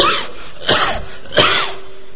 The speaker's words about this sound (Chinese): 你怎么咳嗽？你脚太臭了。